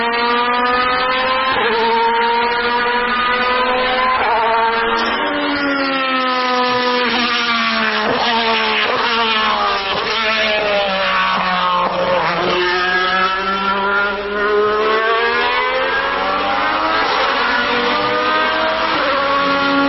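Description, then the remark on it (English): An early-to-mid-1990s Alfa Romeo 155 DTM touring race car, four-wheel drive with a 2.5-litre V6, screams at high revs, its pitch climbing and dropping sharply through rapid gear changes, loud throughout with no talking. “No, so that's an Alpha 155 DTM car from early 90s, early to mid 90s.”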